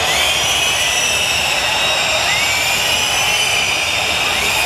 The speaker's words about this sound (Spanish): El sonido, pues, es inequívoco, ha sido una pitada unánime, ha contrastado, como decías, con la ovación que sí que se ha llevado la familia real.